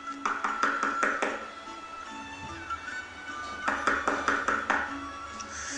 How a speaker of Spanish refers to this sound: Caperucita llegó más tarde a casa de la abuelita y llamó a la puerta